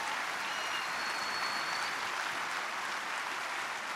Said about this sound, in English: Give the Lord a hand clap of praise in this house today.